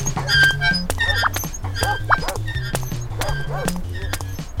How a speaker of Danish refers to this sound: Lorte hund.